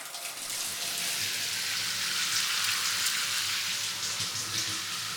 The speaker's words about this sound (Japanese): じゃあシャンプー前に軽く髪を濡らしてくね。うん、うん、いいかな。はーい、シャワー行くよ。